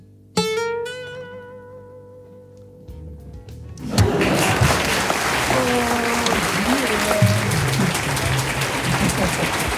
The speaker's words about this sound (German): Der Applaus, Applaus.